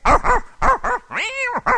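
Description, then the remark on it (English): A dog barks several times in quick, uneven bursts, loud, with a longer, higher whining yelp breaking up the barks before they resume, as it is set on a cow. “It's sick the dog on the cow, and if you're doing it like I do, you better crawl up a tree if there's any cow in the pastures.”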